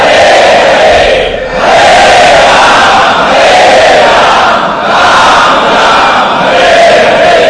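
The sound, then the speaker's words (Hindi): A large crowd loudly chants Hare Krishna in unison, a dense wall of voices rising and falling in repeated phrases with brief dips between them. “और बाद में जितनी शक्ति है उतना जोर से चिल्लाओ हरे कृष्णा हरे कृष्णा कृष्णा कृष्णा।”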